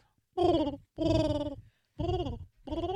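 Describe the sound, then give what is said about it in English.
A person imitates a pigeon with four loud, drawn-out vocal coos, each about half a second long, separated by brief pauses, with a slightly wavering, bending pitch. “Okay, well, then know what a goddamn pigeon sounds like.”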